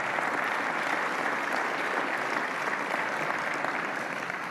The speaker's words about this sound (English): Y'all give those kids a hand.